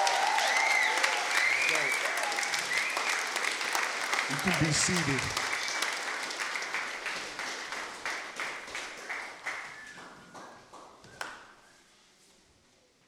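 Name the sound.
audience shouting and clapping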